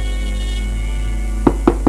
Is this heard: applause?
no